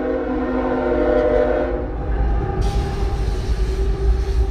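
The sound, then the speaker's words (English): A loud freight train rumbles past, its horn sounding a sustained, droning blast for the first couple of seconds before the heavy rolling clatter of cars takes over, with no one speaking. “that's like a fucking train being loud as shit back there”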